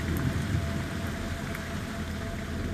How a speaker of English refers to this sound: The air is dense, wet. It's been raining heavily overnight.